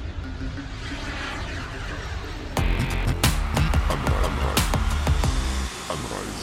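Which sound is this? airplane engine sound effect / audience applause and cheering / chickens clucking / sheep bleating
airplane engine sound effect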